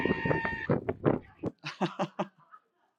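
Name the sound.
sheep bleating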